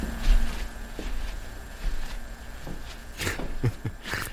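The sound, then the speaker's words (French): Soft, light footsteps on a floor, David Cronenberg in a dressing gown approaching his bed in his silent 2021 short film The Death of David Cronenberg, spaced irregularly and growing slightly louder toward the end, over a quiet hum with no talking. “Mais si vous avez bien tendu l'oreille, vous avez peut-être perçu un léger bruit de pas.”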